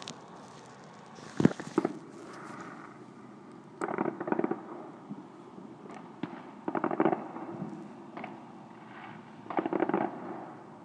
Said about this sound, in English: I'm going to introduce you to World War III in my back garden, as it's November the 5th, all the fireworks are going off. And it does sound like World War III a bit. Here we go.